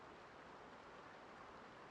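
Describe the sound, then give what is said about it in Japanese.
Steady rain falls in a continuous, even hiss with no breaks, fairly soft and spread out like a downpour, with no voices. “確かに花火中に降らなくてよかった。そう考えると雨に味方してもらってるみたいだな。”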